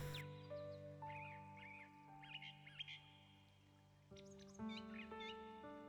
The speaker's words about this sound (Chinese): 你可以听到小鸟的叫声。